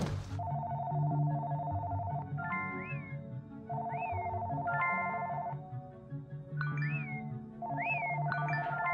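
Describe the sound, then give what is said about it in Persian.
A phone ringtone repeats about four times, each cycle a steady electronic tone followed by quick rising chirps. It plays clearly on its own with no talking. “هی، زنگ زدم جواب ندادی، باید بری مغازه.”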